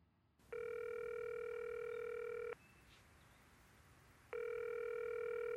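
A steady electronic telephone tone sounds for about two seconds, pauses, then starts again, the repeating pattern heard when a call line drops, loud with no talking.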